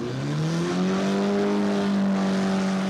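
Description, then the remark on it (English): A car engine, drained of oil and water, revs up with a brick on the accelerator and holds at a high, steady pitch, its loud, strained drone continuing unbroken, at an annual local fundraiser where people bet on how long it will last. “The car's engine is drained of oil and water and someone puts a brick on the accelerator, with people placing bets on how long they think it'll last.”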